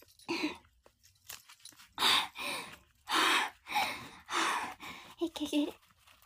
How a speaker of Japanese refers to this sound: 息切れが、やばい。